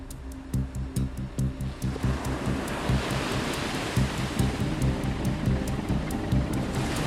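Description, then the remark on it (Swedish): A loud, rushing wash of ocean water surges in and holds steady as waves break against the hull of the USS Gerald R. Ford, the world's largest aircraft carrier, 300 metres long and 75 metres wide, in the Caribbean Sea near Venezuela, over a low, rhythmic throbbing pulse underneath. “Över det karibiska havet tuggar sig en enorm pjäs genom vågorna.”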